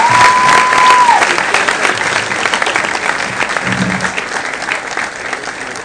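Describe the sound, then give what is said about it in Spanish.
Loud, sustained applause from an audience for a businesswoman and founder, dense clapping filling the whole stretch with a brief high whistle-like tone at the start, then steady clatter that eases slightly toward the end. “Entonces, quiero que me le den un gran aplauso a su chico de amante fundador, 20 años atrás,”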